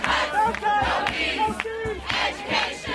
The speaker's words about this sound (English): Students from the University of California at Berkeley protesting a recent decision by the governing board to raise tuition by 32%.